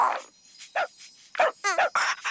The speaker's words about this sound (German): Hey, hast du das gehört? Der Hund lädt dich in sein Körbchen ein.